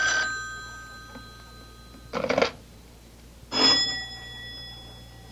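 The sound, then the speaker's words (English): An old-fashioned telephone bell rings in two short, loud clattering bursts, each leaving a lingering metallic shimmer. A steady low hum sits underneath, and no one speaks. “Do something about that confounded phone. I can't, Mama. It'll just keep ringing.”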